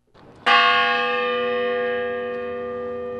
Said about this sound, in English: Six bells rang out starting at 10:10 a.m. to pay respect to the people who were killed in the shooting. Then another 13 bells for those injured.